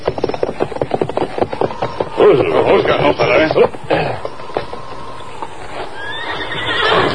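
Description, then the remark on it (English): A horse whinnies loudly, its hooves clopping in a steady rhythm, while a man's voice speaks over the animal sounds. “Horse take shelter by line shed just ahead.”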